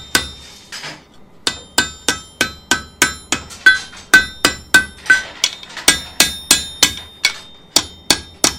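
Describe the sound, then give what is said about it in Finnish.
Steady hammer blows ring out on metal being forged into log tongs, about two strikes per second with a bright clanging ring, loud and rhythmic, with a brief pause early on before the pounding resumes. “Kun väri rupeaa tummeneen, niin sitten täytyy myös näitä lyöntejä ruveta vähentämään.”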